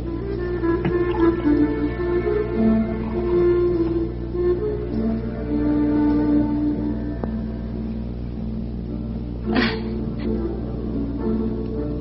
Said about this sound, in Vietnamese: Con gái, tại sao con không rót rượu cho tướng quân đi? Mau lên. Mời tướng quân.